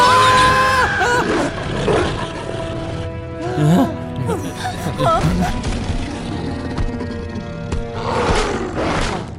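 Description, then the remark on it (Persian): A werewolf roars loudly, a long snarling, growling bellow that swells and rasps with a deep rumbling undertone, followed by a second roaring surge near the end. “یه گرگینه؟ دقیقا اینجا چه خبره؟”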